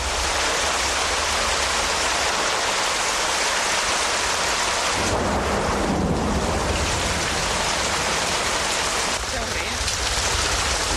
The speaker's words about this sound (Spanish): Com un riu d'aigua, eh? Això comença a fer por, eh? Haurem de marxar.